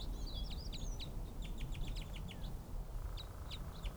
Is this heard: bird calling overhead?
yes